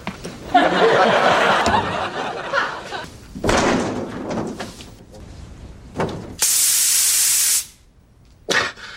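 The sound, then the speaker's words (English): A loud burst of spray tan mist hisses steadily for about a second as a spray tan is being applied, set among other rustling, thumping noises and faint laughter. “Spray, count, pat, and turn.”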